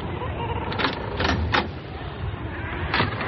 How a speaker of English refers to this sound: Well, I suppose I should knock.